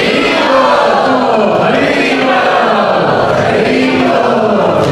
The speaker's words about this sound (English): Hare Krishna, can we please have a huge round of applause for this wonderful Sachchidananda Swami?